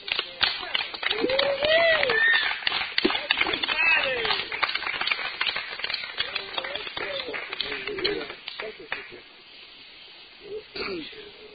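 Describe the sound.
A crowd claps loudly and steadily for about nine seconds, with scattered whoops and voices mixed in, before the applause thins out and fades. The audience is giving another round of applause for a speaker who has just finished sharing at a meeting.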